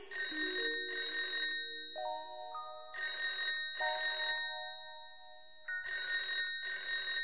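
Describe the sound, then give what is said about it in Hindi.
A telephone rings in repeated bursts as a phone call is placed, a bright electronic trill sounding in pairs with short pauses between, clear over a steady tonal hum with no one talking. “गुप्ता जी भी से फोन लगा के पूछ लिया। अच्छा चलो, चली लगा लिया फोन।”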